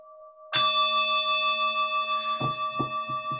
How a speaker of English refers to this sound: So let's get calm and centered in our space and prepare to go inward. Hear the sound of the bell. It calls us to inner attention. Attention is love.